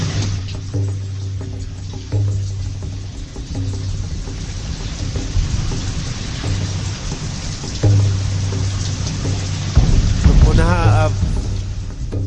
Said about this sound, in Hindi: वर्षा तो रुक नहीं रही।